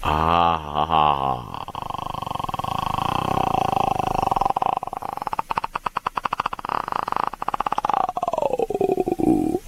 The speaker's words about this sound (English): Lions roar? What the hell is that? That was cool, right? I've been working on that sound to try to clear my throat. You sound like the girl from The Ring. Yeah, that was pretty cool, huh?